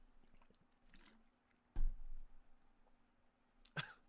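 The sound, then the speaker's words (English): Someone takes a sip of water: a soft low gulp, a quiet pause, then a short breathy exhale like a throat clearing, over a faint steady hum with no talking. “excuse me, just going to take a sip of water.”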